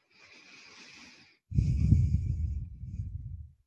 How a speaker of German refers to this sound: Wir atmen. Wir ziehen Luft in unsere Lungen und füllen uns so mit kosmischer Energie. Wir geleiten diese in unseren gesamten Körper.